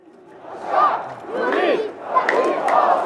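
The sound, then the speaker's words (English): Hundreds of protesters outside a mosque in downtown Amman, Jordan, shout and chant in unison, calling for Jordan to let them go fight Israel; loud, overlapping voices rise in waves with rhythmic bursts, and cheering swells as a Muslim Brotherhood speaker sets fire to an Israeli flag. “Outside a mosque in downtown Amman, hundreds of protesters call for Jordan to let them go fight Israel. They cheer when a Muslim Brotherhood speaker sets fire to an Israeli flag.”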